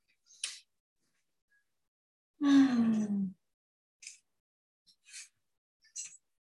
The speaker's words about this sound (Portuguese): finalizando seu texto, fazendo uma respiração profunda.